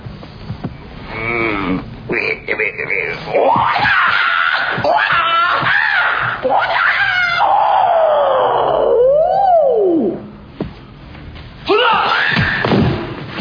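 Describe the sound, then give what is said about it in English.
A series of loud, drawn-out martial-arts style fighting yells and shrieks, pitch swooping up and down, with brief thumps between them before a pause and one more burst. “Give them a little move, a little scream, and lots of attitude.”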